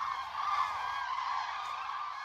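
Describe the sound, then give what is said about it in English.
A dense, continuous chorus of squeaking, mournful calls from a flock of cranes passing over the Dordogne, France, on migration from the Arctic Circle to North Africa, many voices overlapping at a fairly steady level with no talking. “passing over the Dordogne on their migration from the Arctic Circle to North Africa, singing their squeaking, mournful song as they go.”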